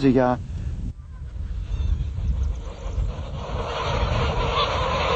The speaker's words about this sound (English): the harvesting of down, a sea of geese as far as the eye can see. Such a concentration of geese contradicts the behavioural needs of the animals.